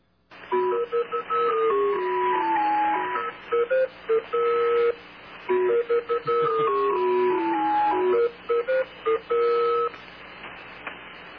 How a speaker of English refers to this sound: It's kind of an interesting little tune they broadcast before this so that their field operators can recognize that this is the signal